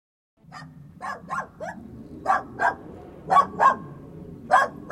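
A police dog at a murder scene barks repeatedly in short, irregular bursts, about ten sharp barks over a low continuous rumble, moderately loud, with no one speaking.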